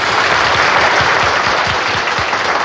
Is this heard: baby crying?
no